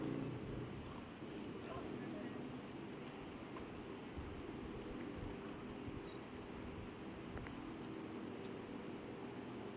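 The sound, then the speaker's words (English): A personal watercraft's engine drones steadily at a distance, a continuous low rumble with a buzzing edge that holds at an even level throughout, with faint voices in the background. “Well, there's a sea-doo, I think.”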